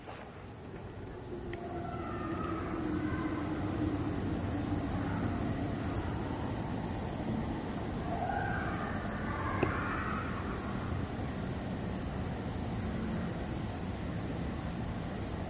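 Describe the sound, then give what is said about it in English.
Coyotes or wolves howl in long, wavering, rising and falling tones, fairly faint against a steady low rumble of wind-like noise, with no talking. “Those are either coyotes or wolves.”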